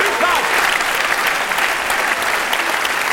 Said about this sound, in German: Bitte begrüßen Sie mit einem tosenden Applaus Dominique de Ville!